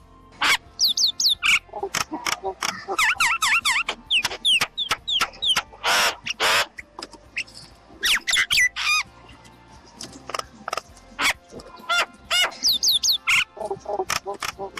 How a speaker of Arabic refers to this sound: النوع الخامس من الطيور طير المينا.